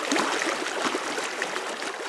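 Steady rushing, splashing water in Las Vegas with a bright, hissy texture and small gurgles, continuous and fairly loud throughout, with no voices.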